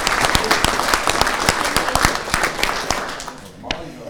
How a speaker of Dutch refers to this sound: Mag ik nog een keer een applaus voor jullie?